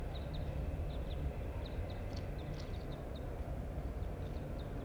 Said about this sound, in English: There's some wild birds here, and one of them's singing. They were chasing.